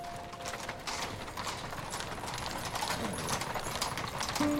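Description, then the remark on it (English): Horse hooves clip-clop steadily as a horse-drawn carriage adorned with Christmas baubles approaches and pulls up at a palace entrance, the rhythmic clopping clear over a busy outdoor background. “A horse-drawn carriage adorned with Christmas baubles pulls up.”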